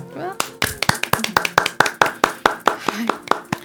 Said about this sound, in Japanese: よかったら一緒に手を合わせて今日も一日頑張った自分にご褒美の拍手をしましょう。